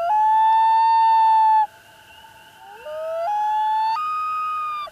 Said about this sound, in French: Après une longue journée de pêche, les huards ont l'habitude de s'appeler. Ils se regroupent ainsi pour passer la nuit dans les eaux profondes du lac.